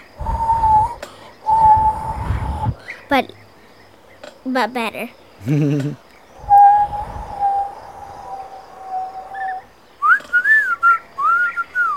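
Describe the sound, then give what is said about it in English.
A person whistles in an imitation of a rooster's whistle, with several long steady tones and quick rising-and-falling warbles near the end, fairly loud, with a brief spoken remark. “Like, he's whistling like this, but I'm not very good.”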